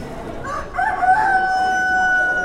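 A bird named Lizzie crows once, loud, at the State Fair, its cry rising then holding a long drawn-out final note over a low murmur of background noise.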